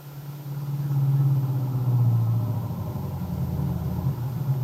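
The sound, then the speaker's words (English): A car engine hums steadily at a low, even pitch, a continuous drone with faint road rumble and no voices, holding the same level throughout. “And then his thoughts were interrupted as the headlights of his car picked up the figure of a young man plodding along the road.”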